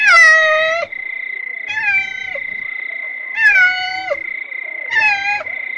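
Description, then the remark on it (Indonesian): A one-year-old cat in a basket meows four times in a slow, evenly spaced series, each call drawn-out and bending in pitch, loud, with a faint steady high-pitched tone running underneath and no talking. “Apa itu ya? Wah, seekor kucing!”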